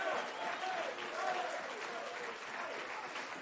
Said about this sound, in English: My God, if you love him, clap your hands unto him and bless his name.